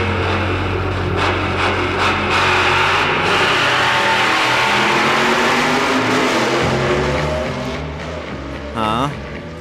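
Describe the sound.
A car engine revs loudly, a rough, sustained roar with a deep low rumble that holds for several seconds, then eases off near the end before a brief tonal burst.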